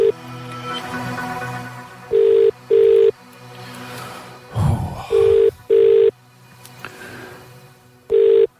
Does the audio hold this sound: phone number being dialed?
yes